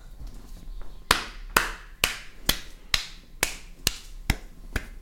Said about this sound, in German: der Junge klatscht in einer Tour, es geht mir so auf den Sack.